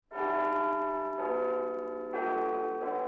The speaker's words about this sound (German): Als draußen die Glocken des Big Ben die 11. Stunde schlagen, erhebt sich die Runde.